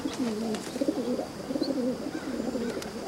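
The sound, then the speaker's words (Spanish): Several pigeons flutter on a rooftop terrace, cooing in low, throaty warbling phrases that run together almost without pause, with a few brief sharp rustles like wings flapping. “En la azotea revolotean varias palomas.”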